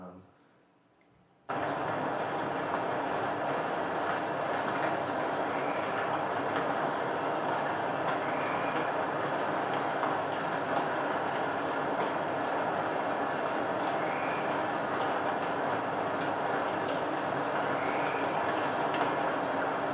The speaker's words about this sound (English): This is the sound of just these gigantic drips falling off the moss and plopping onto all these leaves. But it sounds like rain, but it's like this big, ploppy, resonant kind of rain. And it was one of my favorite sounds in the Ho rainforest.